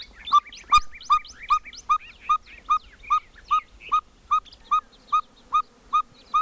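At sunrise in a desert canyon at Organ Pipe National Monument, birds sing outdoors: a steady series of about fifteen evenly spaced whistled toots repeats clearly, while other birds chirp and trill more faintly in the first seconds.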